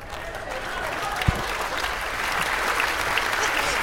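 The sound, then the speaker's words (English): Steady, sustained clapping from a large audience giving a group of kids a round of applause, a dense wash of many hands that swells slightly louder toward the end, with a single sharp knock early on. “Now give these kids another big round of applause.”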